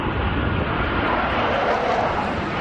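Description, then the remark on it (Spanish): A steady, loud roar of military jet aircraft passing overhead during a morning rehearsal for an Army air show in Gijón, Spain, a broad rushing engine noise that holds constant throughout the short stretch with no voices. “Hay ensayo esta mañana de la exhibición aérea que mañana va a hacer el Ejército en Gijón.”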